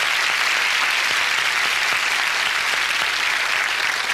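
A steady round of applause from many hands, a dense, bright wash of clapping that holds at an even loudness throughout with no voices over it.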